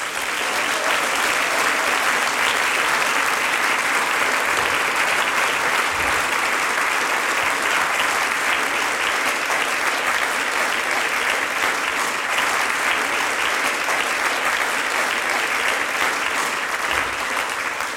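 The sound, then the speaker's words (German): Sustained applause from a large audience at a singers' and musicians' meeting, welcoming a group, a lady and three men, on stage; a dense, steady wash of clapping that stays loud and even for the whole stretch with no voices standing out. “Großer Applaus, der ….”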